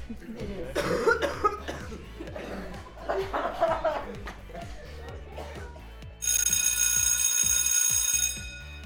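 A person coughs repeatedly in rough bursts for several seconds, then a loud, steady electronic ringing tone like a bell or alarm takes over.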